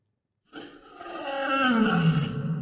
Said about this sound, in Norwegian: i hvert fall ganske nære kardemommebyløven. Ja, og det er en løve det.